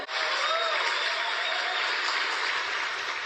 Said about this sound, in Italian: Fragoroso applauso dopo l'annuncio del direttore di volo nel centro di controllo di Houston, che ha confermato l'uscita dalla capsula del quarto e ultimo astronauta.